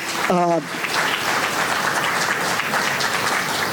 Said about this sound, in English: So, man, give those kids just a round of applause.